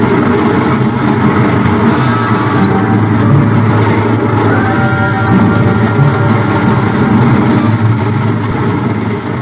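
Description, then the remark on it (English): A train thunders past under a bridge in a loud, continuous roar: heavy, low rumbling with a grinding mechanical clatter that holds steady for about nine seconds, with no voices. “I reach up and jerk it loose just as the train thunders under the bridge.”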